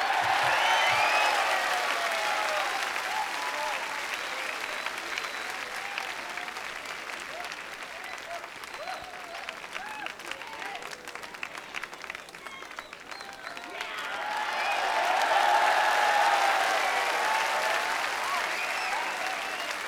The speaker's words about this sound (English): Let's give him a nice round of applause. Let's give this young man a hand. How about it, huh?